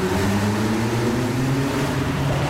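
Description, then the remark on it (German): A convertible car's engine drones steadily with a low, rumbling tone and a broad wash of road and wind noise as it accelerates onto a city motorway, holding a constant loud level throughout with no voices. “So, jetzt fahren wir mal kurz auf die Stadtautobahn.”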